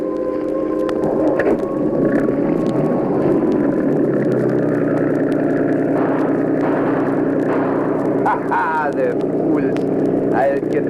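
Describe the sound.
A cruiser's special auxiliary motor drones steadily and loudly, a continuous low rumbling hum with shifting tonal whine, while voices briefly break in over it.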